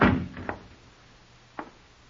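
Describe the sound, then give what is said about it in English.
A heavy door thuds shut, followed by a softer knock of the latch and another short wooden clack a moment later, with quiet room tone between and no voices. “Keep quiet and shut the door.”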